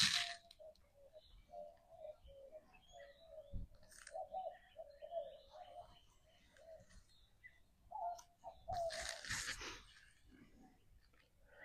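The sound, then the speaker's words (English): White-winged doves coo repeatedly in a steady, hooting rhythm, several birds calling, with occasional chirps and a few sharp cracks and rustles mixed in outdoors. “The White Winged Doves are putting on a concert today.”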